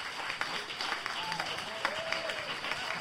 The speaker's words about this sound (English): So please give him a big round of applause.